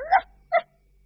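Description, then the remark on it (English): A dog barks twice in quick succession, two short, sharp woofs with a brief pause between them and nothing else around. “Lucky dog.”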